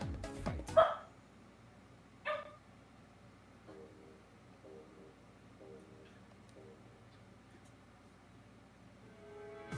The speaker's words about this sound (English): Dog is going nuts.